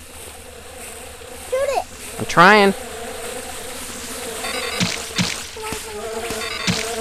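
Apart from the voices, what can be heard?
mosquitoes buzzing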